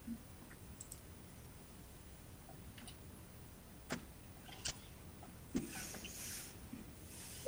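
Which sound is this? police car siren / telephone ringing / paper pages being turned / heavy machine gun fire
paper pages being turned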